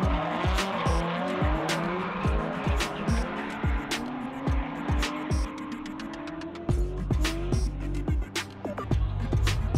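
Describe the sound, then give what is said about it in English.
A car drifts, its engine revving and bouncing through gear changes while tires squeal and skid continuously. The sound is loud and sustained throughout, with no talking. “And like when I'm giving ride-alongs here with Lone Star Drift, I'm basically able to take some people that maybe haven't experienced drifting ever before.”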